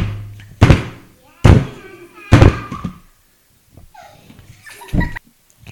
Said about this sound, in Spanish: ¡Bienvenidos!, dijo el líder, golpeando una roca con su bastón.